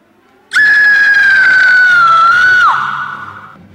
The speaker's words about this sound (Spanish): ¿Has oído ese grito? ¿A qué grito te refieres? ¡A ese grito! Sí, sí, que lo he oído.